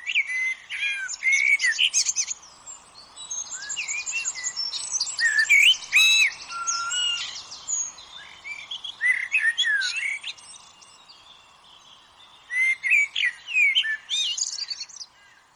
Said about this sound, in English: And while the bird microphones are off for now, he hopes other researchers will study the greatest hits of the great tits of Oxford.